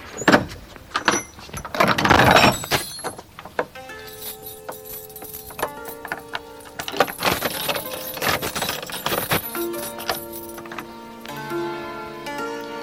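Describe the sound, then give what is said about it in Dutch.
A heavy church door thuds shut, then a very large key rattles and grinds in the old lock with sharp metallic clicks and scrapes as the church is locked, followed by a faint ringing hum in the background. “Ja, ik heb de sleutel. Heb ik net gekregen van de vrouw van de dominee. En dan gaan we de kerk weer afsluiten.”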